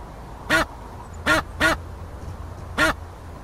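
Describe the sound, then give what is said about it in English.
Four short, nasal duck quacks, loud, the middle two in quick succession and the last after a pause, over a faint low background hum; a duck's quack used as a goose's honk in a video game. “they had a honk in before I started working, and it was actually a quack from a duck.”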